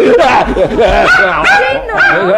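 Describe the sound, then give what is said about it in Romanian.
A dog barks and yips in a quick, loud run of high, wavering bursts in the children's nursery, mixed with a human voice throughout. “Refuz să permit acestui câine să se facă stăpân în odaia copiilor mei.”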